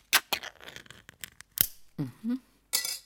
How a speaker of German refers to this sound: Obacht, jetzt kommt der große Moment. Öffnen Sie den Verschluss an der Oberseite der Dose.